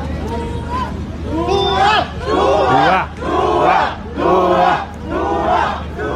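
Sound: crowd of fans screaming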